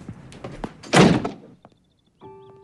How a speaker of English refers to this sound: He opens the front door.